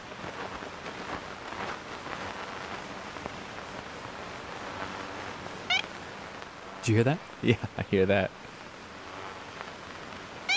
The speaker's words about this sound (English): There it is again. So that little honk? Uh-huh. That's a recording of the ivory-billed woodpecker? Yeah. Captured in 1935 by the guy who actually founded the Cornell Laboratory of Ornithology.